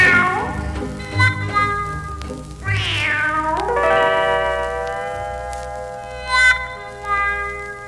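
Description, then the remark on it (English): A drawn-out, sliding meow rises and falls over sustained musical notes, followed by a couple of shorter meow-like cries later on, moderately loud against the steady instrumental backing. “You wildcat woman, you married a tomcat man. Meow.”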